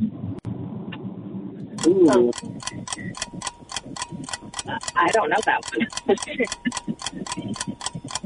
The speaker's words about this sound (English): Oh, there's the timer.